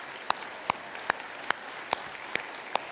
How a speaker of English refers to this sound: Yes, God deserves all of our praise. We get clapping until our hands hurt.